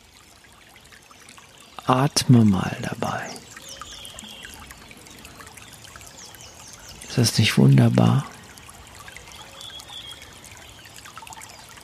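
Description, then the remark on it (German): Brook water trickles and splashes steadily at moderate volume throughout, while a voice speaks briefly twice over the flowing sound. “Hör mal das Wasser. Diese Natur.”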